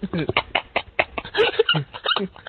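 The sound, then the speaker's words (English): A dog named Vince barks in a rapid, uneven string of short, sharp yaps and yelps, fairly loud, with barely a pause between them for a couple of seconds. “All right, well, I'm not going to torture you anymore. 24 hours of Vince barking.”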